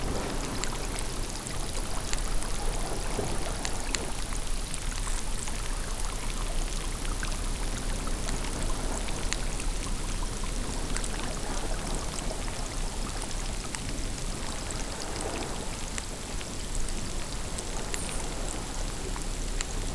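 A dense underwater wash of crackling, clicking and bubbling fills a fairly deep rock pool of seawater left at low tide, away from the waves and surf, steady throughout, with tiny snaps and pops scattered over a constant watery hiss.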